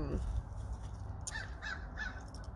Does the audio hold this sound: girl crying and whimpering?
no